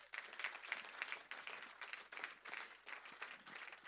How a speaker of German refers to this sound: Und vielleicht können wir all den Leuten, auch die ich nicht genannt habe, nochmal einen richtig fetten Applaus geben.